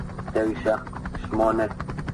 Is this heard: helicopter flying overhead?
yes